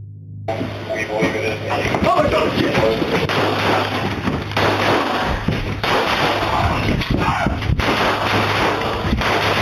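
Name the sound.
gunfire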